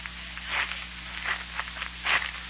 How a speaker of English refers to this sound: Mysterious footsteps are approaching Jack Armstrong and Billy as they wait in the darkness of a hillside tunnel in the wild Zamboanga Peninsula.